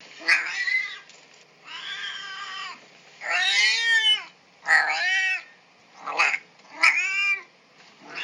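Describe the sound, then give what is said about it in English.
A domestic cat meows over and over, about six drawn-out, wavering calls with short pauses between them, fairly loud, with no one talking. “I'm going to play some cat meows for you right now”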